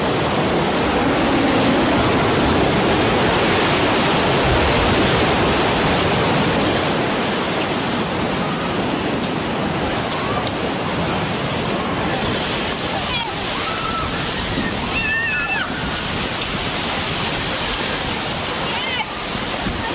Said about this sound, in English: A huge explosion now, raining debris on all of us. We better get out of the way.